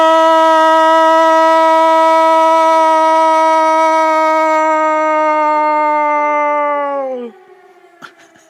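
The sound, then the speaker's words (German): A loud alarm blares one steady, buzzing tone rich in harmonics for about seven seconds, then its pitch sags briefly as it cuts off, leaving near silence with a faint click. “Es ist schon wieder Alarm.”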